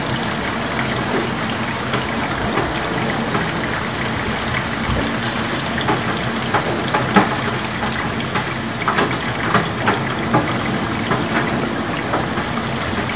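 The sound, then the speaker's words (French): Steady rain falls in London, a dense, even hiss of drops with scattered sharper splashes and patters, continuous and fairly loud throughout, with no voices. “D'abord, on peut se réveiller sur ce son sympathique et plutôt habituel en hiver, mais qui donne juste envie de rester sous la couette.”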